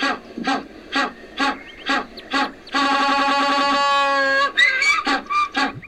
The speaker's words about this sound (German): Ich bin übrigens ein Eselspinguin und der schnellste Vogel im Wasser. Eselspinguin? Ja klar, hör doch mal.